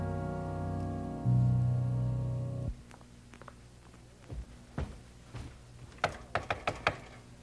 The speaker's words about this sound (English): He said, just come to our house and knock on the door, and we'll be ready.